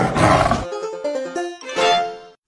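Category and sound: animal, tiger roar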